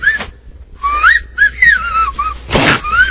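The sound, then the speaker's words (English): Shrill, piercing two-finger wolf whistles, a series of sliding, swooping notes with short gaps and a harsh breathy rush of air near the end, no talking. “Piercing.”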